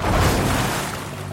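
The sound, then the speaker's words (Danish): A loud, full rush of churning water with a deep rumble, as if something bursts up through the surface, then gradually easing off over about a second. No voices. “Nu læder vi lige op af vandet.”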